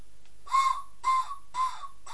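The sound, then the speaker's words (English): Three short, breathy steam train whistle blasts in a steady rhythm, each a mid-pitched hoot wrapped in hissing steam, the last one shorter and weaker than the first two. No one speaks. “Oh, he sounds like he's running out of steam.”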